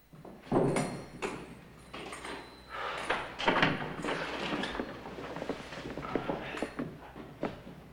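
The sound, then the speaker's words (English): A door handle rattles against a locked door with a few sharp clunks as someone tries it, then another door in a small room creaks and bumps open as a priest comes through, followed by scattered knocks and shuffling, with no one speaking. “tries one of them and finds it's locked. Through the other door, the padre appears.”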